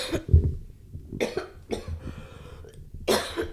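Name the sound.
coughing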